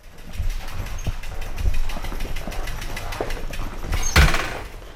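A motorcycle engine runs with a steady, low rumble throughout, and a short louder burst near the end. No voices.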